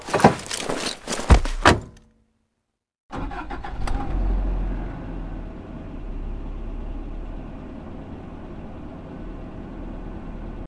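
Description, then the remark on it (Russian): Rustling and sharp thuds of someone climbing into a car, ending in a solid door slam, then a brief hush before a car engine starts and settles into a steady low idle. “Фуф, Садимся в машину.”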